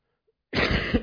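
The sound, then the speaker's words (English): A single harsh cough bursts out after a brief silence, loud, with a rough, throaty quality and no talking around it. “I have to cough.”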